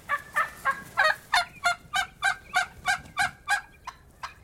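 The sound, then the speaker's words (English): A wild turkey tom gobbles in a fast, rattling burst of about a dozen throaty notes, clear, with no voices over it. “This beard is a small cluster of bristles that sprouts from the bird's chest plumage.”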